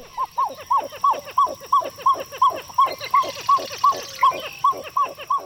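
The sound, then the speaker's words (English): A pied-billed grebe calls in a long, steady series of loud, hollow, yelping notes, about three per second, each a short barking whoop, with no voices present. “For an eerie scene set deep in the African jungle, Hollywood knows it's hard to beat the resounding call of a pied-billed grebe.”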